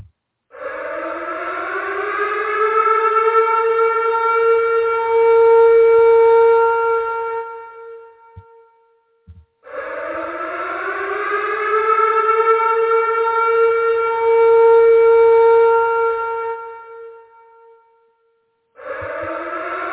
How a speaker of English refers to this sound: So while we're getting that set up to get started, we're going to hit the siren.